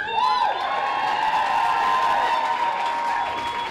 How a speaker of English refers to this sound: it's so full of people that dozens more crowd into the hallway, straining for a glimpse of the speakers and performers. Tonight, hundreds of people gather to see a special guest.